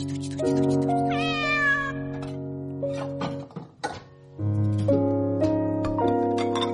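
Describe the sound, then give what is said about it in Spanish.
A kitten meows, a drawn-out wavering call, as a plate of food is set out for it, over steady sustained musical tones that play throughout; no one speaks. “Aquí está el plato. Para el gatito, mi nino, venga para acá.”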